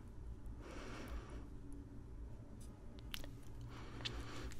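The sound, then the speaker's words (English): Steady gritty scrubbing of a person's lips with a crunchy exfoliating scrub, a continuous crackly rubbing with small sharp crunches scattered through, fairly quiet and heard on its own with no talking. “And then just start going like this. Like that. Mm-hmm. And that's exfoliating. Makes your lips really smooth.”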